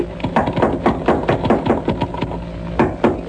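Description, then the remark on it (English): Someone at the top of a ladder bangs hard and repeatedly on a trap door, a quick, uneven series of sharp, heavy knocks over a low steady hum, with no voices. “You get to the top, just bang on the trap door.”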